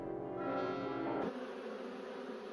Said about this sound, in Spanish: El zumbido de una abeja tiene unos 30 hercios.